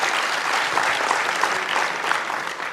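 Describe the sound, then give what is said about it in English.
A crowd applauds the Summer of Code mentors and students as they stand up, a dense, even wash of many hands clapping that stays loud and sustained throughout, with no one speaking over it. “And a round of applause.”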